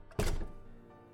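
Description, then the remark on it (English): A door shuts with a single solid thunk, a sharp low-heavy impact that rings briefly and fades into quiet background hiss. “If you know what's good for both you and me, then you'll close that door and come back here.”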